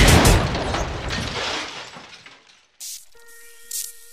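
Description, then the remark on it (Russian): A loud, booming gunshot effect with a long reverberant tail that fades over a couple of seconds, followed by a few short, quieter hits and a faint sustained tone. “Прицел наведен на цель, выстрел.”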